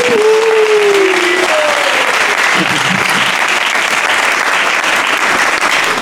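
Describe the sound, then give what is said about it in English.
A large audience claps loudly and steadily for several seconds to welcome a local poet, a dense wash of applause, with a faint whistle or tone sliding down near the start. “I want to ask you, please, ladies and gentlemen, join your hands for a massive round of applause.”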